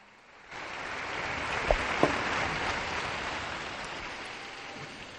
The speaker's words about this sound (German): Der Herr möge die Sizilianer segnen. Einen Applaus für die Sizilianer, bitte.